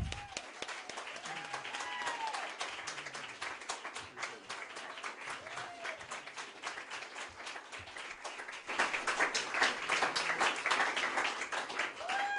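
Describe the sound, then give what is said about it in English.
A crowd in Austin applauds steadily as Dr. Andrew Wakefield is introduced, dense overlapping claps filling the whole stretch, swelling louder toward the end, with a few faint voices and cheers mixed in. “You may not be applauding at the end.”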